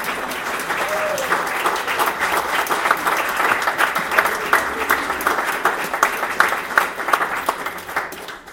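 Sustained audience applause for a jury as its members rise, a dense wash of many hands clapping steadily at full volume for several seconds, with faint crowd murmur beneath but no clear speech.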